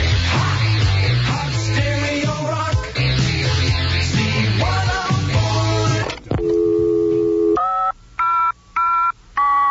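Busy music gives way to a steady electronic tone, then a short run of three or four clear touch-tone beeps, loud and close, separated by brief silences.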